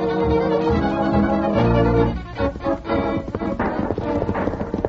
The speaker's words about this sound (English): From the sound, I'd say there must be 15 horsemen chasing him. Yeah, they're going away fast.